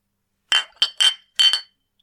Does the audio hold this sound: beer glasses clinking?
yes